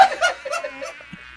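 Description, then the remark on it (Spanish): A black fly's buzzing drone as it takes off, fairly loud at first, wavering in pitch for over a second before thinning out. No one is talking. “La mosca echó a volar.”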